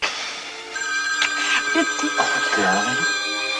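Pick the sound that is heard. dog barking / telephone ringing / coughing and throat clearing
telephone ringing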